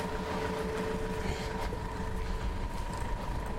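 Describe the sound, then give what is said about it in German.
A loud, rumbling car engine drones steadily with a sustained mechanical hum and faint whine, a continuous noisy motor sound with no talking. “Nerviges, rumlärmendes Autogerät. Umweltverpestendes.”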